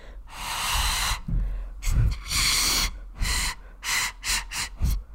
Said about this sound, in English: I tried making my own pan pipes out of basically like cardboard straws. I put the cardboard straws together and I made some shorter and some longer, thinking they would sound really cool. And well, listen to it for yourself.